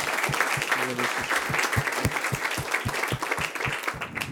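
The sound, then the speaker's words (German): An audience applauds steadily, a dense wash of many hands clapping, with regular sharper claps standing out in a quick, even rhythm throughout. “Also dafür einen Applaus.”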